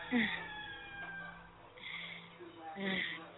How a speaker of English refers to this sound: There's the rooster.